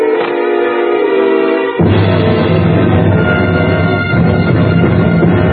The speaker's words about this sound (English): The train goes over the bridge.